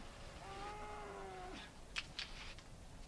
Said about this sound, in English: I don't believe it. Jersey. Real cows. Too many. 12 of them. In calf. The finest milk in the world.